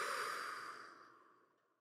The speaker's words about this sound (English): I want you to take a deep breath in with me. Hold it at the top and release it through your mouth.